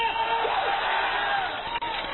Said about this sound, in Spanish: Hay un grito de júbilo, hermano, a ver si me despierto.